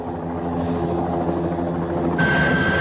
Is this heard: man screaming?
no